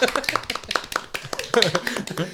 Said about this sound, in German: Und, okay, sorry, das Klatschen hat sich erst angehört wie so Vögel.